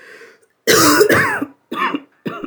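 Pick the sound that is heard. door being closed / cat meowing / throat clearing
throat clearing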